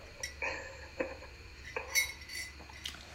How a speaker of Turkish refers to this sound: Bir birazcık kahvemden bir yudum alın.